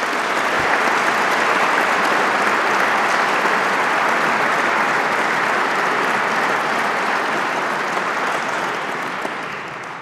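At a prize ceremony, an audience applauds the law prize laureates, who have been asked to stand. The steady clapping lasts about ten seconds, a dense, even wash that holds its loudness throughout and only begins to taper slightly at the very end, with no voices heard.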